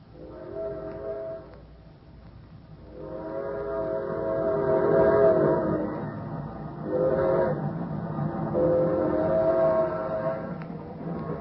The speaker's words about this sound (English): We don't get to see a train very often. Sure looks good. Yep, just gliding along.